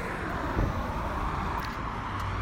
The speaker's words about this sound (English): Going to the part of this trail where it's connected to the highway. It's actually underneath the highway. And it's just so loud. Like, it's something I've gotten used to at this point. I just feel super stressed with all these cars around.